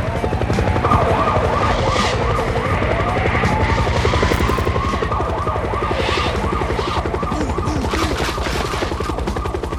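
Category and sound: vehicle, police car siren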